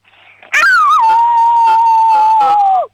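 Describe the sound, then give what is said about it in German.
A six-year-old girl from the state of Vorarlberg imitates a wolf howl as loudly as she can: one long, loud note that swoops up at the start, holds steady for about two seconds, then drops off at the end. “So, und jetzt hätte ich gern, dass du heulst wie ein Wolf, aber so richtig laut.”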